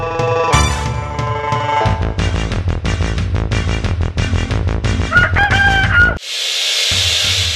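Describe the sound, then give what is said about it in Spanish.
A rooster crows once over loud, rhythmic music, its call rising and falling near the end before the music cuts to a burst of noise. “Y recuerden, amigos, ustedes ponen el gallo y Gutterman pone la navaja.”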